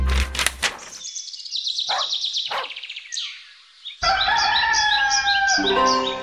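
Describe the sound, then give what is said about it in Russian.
A rooster crows loudly, first a strained, wavering call, then a long, full cock-a-doodle-doo that holds strong to the end. No one speaks. “Чуть только прокричал петух, Тимофей выскочил из окошка на крышу и напугал всех, кто проходил в это время по улице.”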